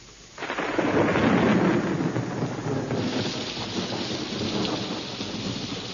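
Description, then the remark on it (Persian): A loud rumble of thunder over Paris bursts in after a brief quiet moment and rolls on beneath steady, heavy rainfall that continues throughout, with a hiss of rain and wind. “اما در پاریس خانم ادلا که خواب بود از صدای رعد و برق از خواب پرید.”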